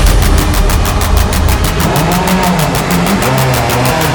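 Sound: car engine running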